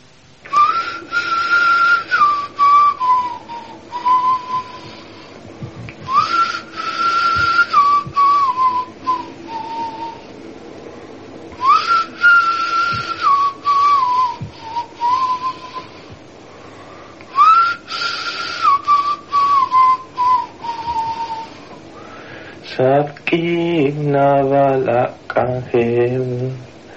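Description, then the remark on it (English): A father in Guatemala whistles a slow, repeating lullaby melody to amuse and lull his child, each phrase gliding downward and returning several times, clear, before a singing voice takes over near the end. “In Guatemala, this father sings and whistles to amuse and lull his child.”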